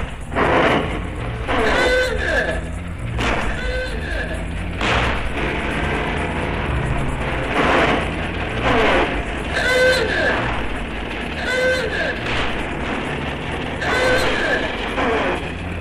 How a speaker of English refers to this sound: Veteran car courtesy Ronan O'Reilly.